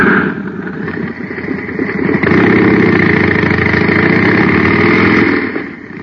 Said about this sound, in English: Now listen to the same jet cycle filled with super fuel.